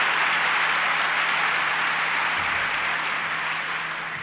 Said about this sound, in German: Ihr dürft nochmal klatschen.